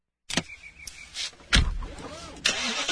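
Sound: car engine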